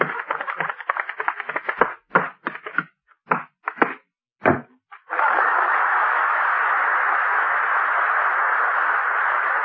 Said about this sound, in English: I heard the door slam.